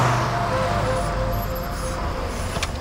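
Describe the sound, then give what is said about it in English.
A car with its headlights on drives steadily down a dark road at night, its engine and tyre noise forming a continuous low rumble with a faint hum, unchanging for the whole stretch, with no voices. “The car's headlights cut through the night as they drive down the dark road.”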